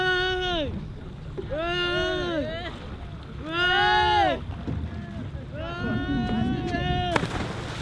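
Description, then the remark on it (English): Several of the 23 people, mostly Syrians and Iraqis, from a capsized boat at sea off Greece scream and wail in long, rising and falling cries as they cling to its blue and white hull, loud, over a steady rush of wind and open water; from a MOAS video taken January 15th. “They screamed as they clung to the boat's blue and white hull.”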